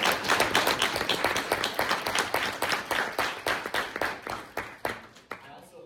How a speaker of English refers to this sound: Thank you for helping me and my senators with this all. Round of applause.